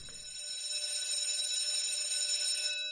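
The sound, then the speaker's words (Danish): A school bell rings continuously with a bright, metallic, steady clangor, holding for the full few seconds at a fairly loud level with no voices. “Nu ringer skoleklokken i hvert fald.”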